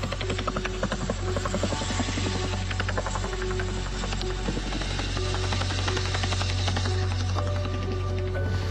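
A helicopter flying at low altitude roars steadily overhead, its rotor thudding in a fast, continuous chop over a deep, droning engine hum that stays loud throughout with no voices.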